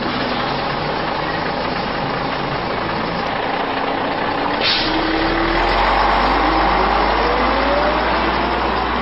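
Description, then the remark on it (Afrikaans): A bus rumbles in, a sharp hiss of air brakes bursts out midway, and then the heavy engine settles into a loud, steady idle. “Maar wag, daar kom my bus.”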